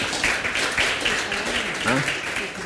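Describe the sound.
An audience applauds in a steady, dense wash of clapping that fills the whole stretch, with a voice briefly rising over it near the end.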